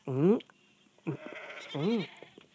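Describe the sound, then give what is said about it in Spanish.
Three wavering, loud sheep bleats from a flock, the first and last drawn out and quivering, with a shorter, choppier bleat in between and no other sound behind them. “Buenas deben ser porque las ovejas están más alegres que nunca.”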